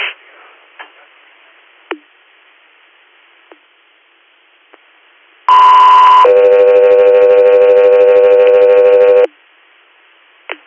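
Faint scattered clicks, then a loud two-tone dispatch radio page for the air medical unit Delta 3 Air: a short steady tone followed by a longer, lower, buzzy tone held for about three seconds before cutting off abruptly.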